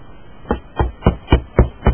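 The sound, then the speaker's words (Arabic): Six evenly spaced knocks on the doctor's door on the upper floor of a rural health unit building, each a short dull thud with a soft resonant body, repeating at a steady moderate pace against a faint background hiss. “ومن ثم صعدت في السلم المتحطم إلى الطابق العلوي حيث سكن الطبيب، وقرأت الباب في كياسة.”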